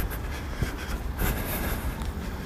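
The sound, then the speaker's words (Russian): A tram arriving at a stop rumbles with a steady, heavy low drone and a rushing, windy hiss on top, the noise swelling slightly midway through. No one speaks. “Так, мой трамвай.”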